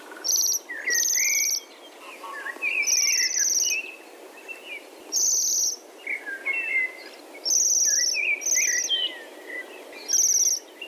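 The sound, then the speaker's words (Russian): Bohemian waxwings giving their characteristic spring 'svir-svir' call: high, thin buzzing trills repeat in short bursts every second or two, mixed with softer chirps from other birds, with no voices. “Но, конечно же, характерный, узнаваемый голос «свирь-свирь» эта птица произносит, конечно же, весной.”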